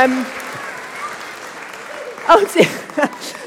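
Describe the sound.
A crowd applauds with a steady, dense patter of clapping throughout, while a few voices call out over it, louder toward the end.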